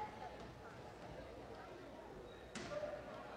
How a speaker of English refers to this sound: Slaps the ball. Comes up to serve.